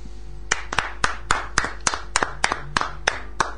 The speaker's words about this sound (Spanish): Siempre tenemos la duda de cuando viene algún poeta a escuchar poesía, ¿qué hacemos luego de escucharla? ¿Se aplaude? ¿Hacemos un silencio? El aplauso está bien. Está siempre.